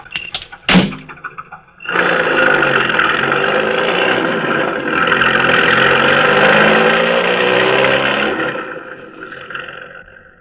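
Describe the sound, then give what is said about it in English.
A couple of sharp clunks as the driver gets back into a car parked by a vacant lot, then the car engine roars to life and revs hard, holding loud for several seconds before fading as it speeds away. “Then, when the task is completed, the driver re-enters the car and speeds away.”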